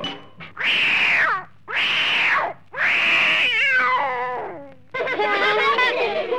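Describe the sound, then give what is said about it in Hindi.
A kitten in a basket meows loudly, four or five high, whiny cries in quick succession, the later ones drawn out and wavering, with no other sounds around them. “और टोकरी में एक बिल्ली का बच्चा।”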